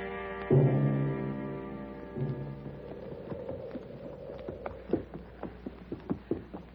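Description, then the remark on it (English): Horse hooves clip-clop in a steady, fairly quick rhythm, following a brief sustained tonal sound at the start; no one speaks. “They're rumbling in the ground. It's like a lot of horses or distant thunder.”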